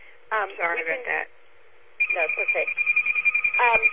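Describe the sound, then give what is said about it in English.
A phone rings with a steady, high electronic tone through the second half, sounding under a voice that keeps talking; a short burst of speech comes first. “Somebody's got a phone ringing there.”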